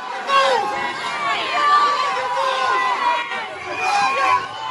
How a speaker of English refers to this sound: So they're shouting, the protesters are shouting, mafia, mafia, just as Muscat is leaving his office.